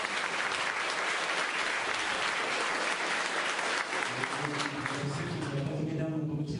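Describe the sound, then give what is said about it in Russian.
Sustained audience applause at a festival, welcoming a speaker, a dense, steady clatter of many hands clapping that holds loud throughout, with a voice beginning to speak beneath it toward the end. “Пожалуйста, аплодируйте.”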